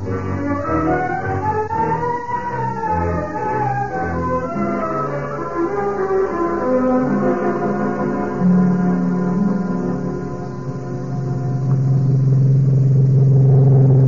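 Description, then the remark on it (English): A car engine runs with a steady low rumble and shifting tonal whine, swelling louder near the end as the vehicle drives. No one speaks. “I'll go for the car.”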